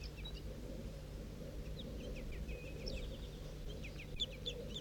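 A bird, numbered 4-3, preens and sings in short, scattered bursts of high, thin chirps with gaps between phrases, over a steady low rumble of background noise, recorded in bushes behind a lower net site.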